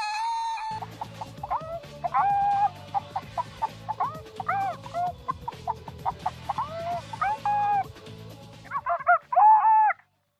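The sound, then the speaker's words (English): A chicken clucks repeatedly, a busy run of choppy squawks and cackles over a low rumbling backdrop, ending in a louder burst of agitated calls. “And here's the fuck all chicken to tell you how much I know about sports.”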